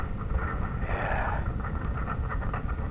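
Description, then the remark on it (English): A wavering, elephant-like trumpeting call in the distance rises briefly over a steady low rumble, then fades back into the droning background noise. “Listen to that. It almost does sound like an elephant.”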